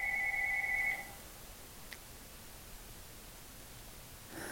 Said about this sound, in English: All right, I had to pause there a second. My phone rang. I don't know about you, but my phone rings constantly during the day. Just rings, rings, rings, rings, rings.